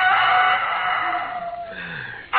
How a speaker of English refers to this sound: Oh, I could have slept if it hadn't been for that darn rooster.